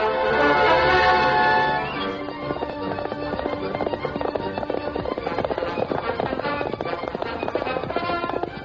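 The Lone Ranger's horse Silver gallops at breakneck speed at sunset, its rapid hoofbeats pounding steadily after a loud, sustained opening burst, with a busy musical backdrop running underneath.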